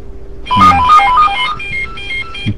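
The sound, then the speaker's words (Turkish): A phone ringtone plays a bright, rapid melodic pattern of electronic tones, fairly loud, with a few low thumps underneath and no talking. “Ben bir telefona bakayım.”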